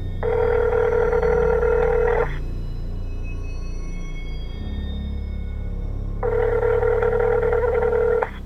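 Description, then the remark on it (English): A phone line ringing through the earpiece as a call is placed on a phone in a kitchen: two long, steady electronic rings separated by about four seconds of quiet, with a low background hum and no talking. “Brandon rushes into the kitchen, grabbing his phone, and calls Philippe.”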